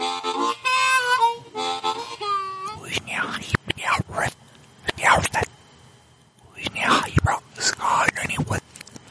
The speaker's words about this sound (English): thank you, Satan, for that lovely backmasking encore. Do you want me to play that backwards for y'all?